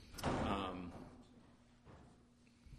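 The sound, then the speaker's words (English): A bulky load bumps heavily against a door as it is carried through, with a loud scraping thud followed by a softer knock a moment later, amid faint room murmur. “That's a load to get through the door right there.”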